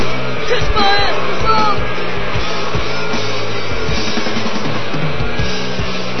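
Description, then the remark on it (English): A hostile arena crowd, against Bazov, roars and yells without letup, a dense, loud wall of voices with a few sharper individual shouts rising out of it early on. “The crowd is completely off the hook, hostile”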